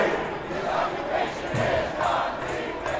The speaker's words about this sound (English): About 400 people yelled out against financial institutions, the G8 and NATO, and championed the environment and other causes.